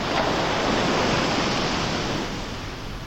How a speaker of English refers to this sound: Listen as the waves roll in and out onto the shore.